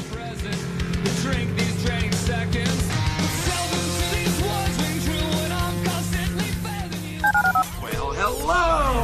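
A quick run of telephone keypad beeps, several short tones in succession near the end, sitting over a busy, dense background of voices and music-like sound.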